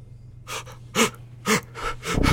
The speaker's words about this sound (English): Grimdek's eyes look up at Sandor's with fear and shock, his body futilely gasping for air.